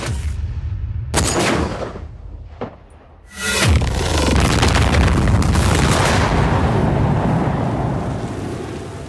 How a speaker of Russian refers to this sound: Взрывное заклинание.